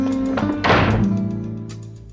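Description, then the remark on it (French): A door slams shut once with a heavy thud that rings out briefly, set against a steady low tonal background. “Ne claque pas la porte.”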